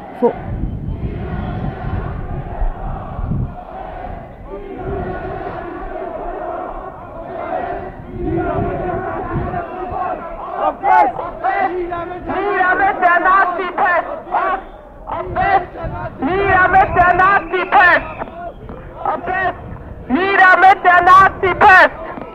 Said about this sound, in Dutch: Nou, eens even gaan staan. Nou, het is in ieder geval een flinke grote demo. We gaan een soort winkelstraat in.